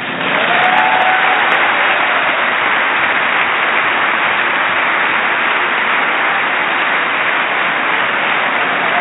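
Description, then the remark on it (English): Sustained, dense applause from a large crowd at a joint session of Congress during a speech, a steady loud wash of clapping that holds at an even level for about nine seconds with no voices standing out. “Well, I was thinking about playing you the whole speech of what he said, but and I can't tell you how much of the applause I deleted out of it.”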